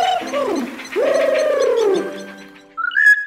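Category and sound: bird, bird call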